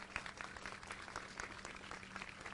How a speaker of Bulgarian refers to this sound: чувате сега аплодисменти, момент да се дръпна. Нещо се случва, може би се гърми шампанско в момента.